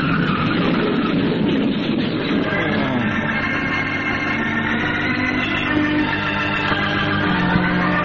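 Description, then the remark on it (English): A car's engine roars loudly as its tires screech in a long, sustained skid as it runs off the road and crashes into a ditch, the harsh noise holding steady for several seconds with no voices. “Nothing like lying in a ditch with a car twisted around you, I always say.”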